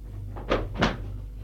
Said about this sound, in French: Il commence à rager. Il prend son élan et d'un coup d'épaule, il défonce sa porte.